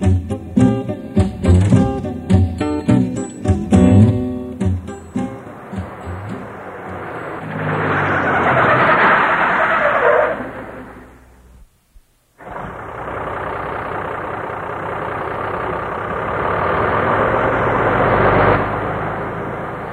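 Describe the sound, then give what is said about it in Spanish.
A truck engine rumbles in as the truck returns home, revving and rising before cutting out briefly, then settles into a steady low idle that holds to the end; no one speaks. “Acabo de oír el camión.”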